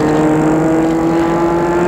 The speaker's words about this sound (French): Il va arrêter sa voiture devant le perron.